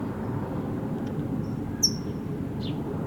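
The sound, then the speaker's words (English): A single sharp, high chip call from a brown towhee banded red, yellow, green stands out over a steady low rumble, with a few fainter chip-like notes scattered before and after it. “Yes, red, yellow, green is the tohi that's chipping.”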